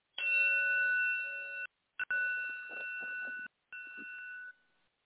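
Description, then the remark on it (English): A bell bowl struck with a striking tool rings with a clear, sustained metallic tone, sounding several times with brief breaks before the last ring fades away. No one speaks. “I'm raising my hand, and I have my little striking tool for my bell that I'm a bowl that I'm getting ready to strike too.”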